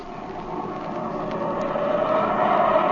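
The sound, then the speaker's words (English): A diving airplane roars steadily as a large piece of fabric rips from its right wing section, a dense rushing engine-and-wind drone that swells slightly louder over a few seconds, with no voices. “In a dive, a large piece of fabric rips from the right wing section of Jimmy's plane.”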